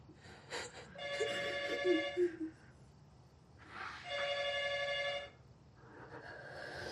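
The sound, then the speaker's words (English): A home telephone rings twice with bright, buzzy electronic trills about three seconds apart, fairly loud over a faint background hum, with the start of a third ring at the end, before an answering machine picks up. “We aren't able to get to the phone right now, but leave a message and we'll call you back.”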